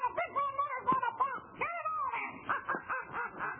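A rooster crows loudly in a run of harsh, drawn-out calls that rise and fall, followed by choppy squawking bursts, with no one talking.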